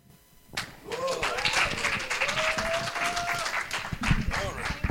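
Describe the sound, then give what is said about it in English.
A crowd breaks into sustained applause after a song, dense clapping, while a voice rises above it with a drawn-out call or cheer. “Why don't we just give another hand clap to them?”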